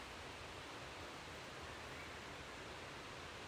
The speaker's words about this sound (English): In the background, you can also make out the rush of water as it heads down the valley towards the River Nid, which is also our destination today. So all we have to do if we get lost, which hopefully we won't do, is just follow the flow of the water.